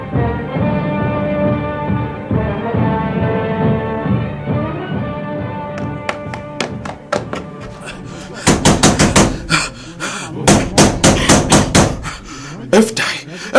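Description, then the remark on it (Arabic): A voice chants Quran verses in a steady tone, then sharp knocks on a door begin, quickly growing into loud, rapid, insistent pounding in irregular bursts, fairly heavy. “الباب يا أم حكيم، افتح الباب يا امرأة.”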